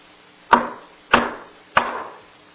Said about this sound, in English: A knock comes on the door of your home in the middle of the night.